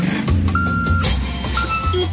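A large delivery truck reverses, its engine rumbling low and steady while a series of high electronic reversing beeps sound in a repeated, evenly spaced pattern.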